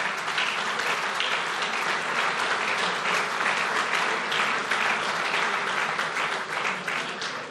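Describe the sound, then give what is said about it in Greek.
Sustained applause from a large audience after a call to vote for Giannis Tragakis, a dense steady patter of many hands clapping at even loudness for several seconds, with no voices standing out. “Και αν κρίνω από το χειροκρότημα”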